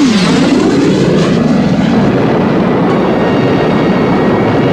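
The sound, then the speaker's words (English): A military jet that dropped napalm on enemy positions roars past overhead, loud, its whine dropping in pitch at first before a steady, thundering rush of engine noise fills the rest. No voices. “Well, as the plane was passing by, the plane that gave us the napalm, we saw a surface-to-air missile blast off the ground.”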